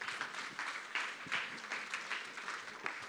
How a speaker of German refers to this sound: Deswegen lass uns einen Applaus geben für